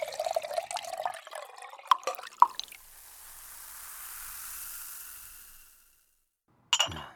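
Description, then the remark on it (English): Water is poured from a pitcher into a glass, a gurgling stream rising in pitch for a couple of seconds, followed by a soft fading hiss and a brief clink at the end. “Oh, and could you get me some water? Yeah, from the pitcher's fine.”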